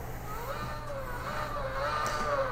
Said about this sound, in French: J'ai une sortie du son qui se fait au niveau des oreilles, qui me permet en fait d'avoir le son de la voiture.